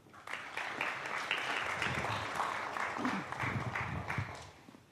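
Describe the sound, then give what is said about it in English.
A crowd breaks into steady applause for a woman, many hands clapping densely and continuously for several seconds at a moderately loud level. “Give her a clap.”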